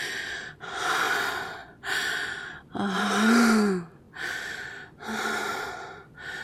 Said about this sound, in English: Oh. Oh, you're breathing heavily, aren't you?